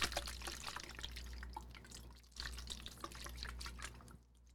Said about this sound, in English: I never heard an amplified sloshing sound before. This is crazy. I could do Foley on this microphone, honestly.